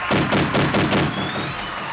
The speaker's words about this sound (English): yeah, you're going to get the gunshots, all right?